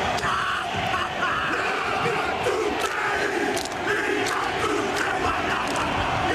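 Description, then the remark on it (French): A group of men shouts a rhythmic haka war chant and dance with forceful yells, set against a steady roar of crowd noise, with the audience whistling and applauding throughout. “Donc au programme, ce chant, cette danse, que dis-je, cette déclaration de guerre.”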